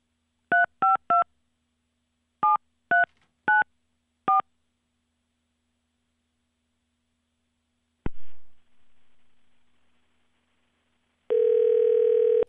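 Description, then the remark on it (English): Seven quick beeping phone keypad tones are dialed in short bursts from a studio, followed by a click, a pause, then a steady buzzing ring tone at the end. No one speaks. “Okay, it's ringing.”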